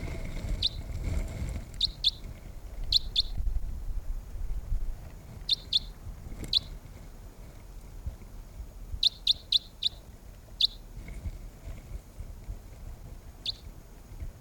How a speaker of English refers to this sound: The wild birds are still calling softly nearby.